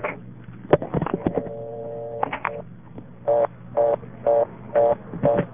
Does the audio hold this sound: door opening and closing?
no